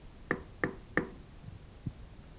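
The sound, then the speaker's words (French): Three sharp knocks on the wooden door of the third house in a village, in a steady, evenly spaced rhythm, clear, followed by a faint soft thud in otherwise quiet surroundings. “Elle va frapper à la troisième maison du village.”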